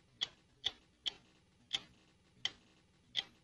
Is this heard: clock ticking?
yes